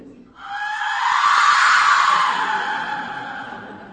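A replica Aztec death whistle is blown in one long, loud, piercing shriek, swelling and then fading slightly, with a harsh, breathy, scream-like rasp.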